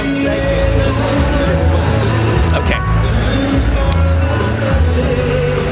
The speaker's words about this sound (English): This is by far the largest crowd that I have seen at any event in Iowa yet. And I would say it certainly isn't as large as a Trump rally, but I think if they wanted it to be, it could be. This is a very large space, and it's all young people.